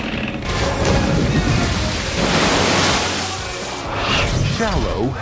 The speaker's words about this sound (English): You want to see a splash? I'm going to show you a splash. Ready?